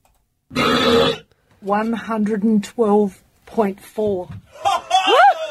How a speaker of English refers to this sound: I mean, that doesn't even... That didn't sound like a burp, really. It doesn't sound human. Sure, it doesn't. It sounded like a weird combination of a roar and It's disgusting.